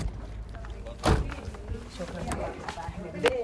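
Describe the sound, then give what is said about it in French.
The door of a small house on a deserted street in a village in Egypt opens with a sharp clunk of the latch, followed a couple of seconds later by a lighter click, over a low, steady background hum and faint murmuring. “Dans une rue déserte, la porte d'une petite maison s'ouvre.”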